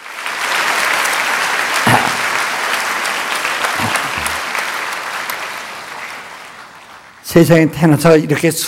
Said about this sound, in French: C'est bien la première fois, n'est-ce pas, que vous êtes applaudi par tant de gens. Félicitations.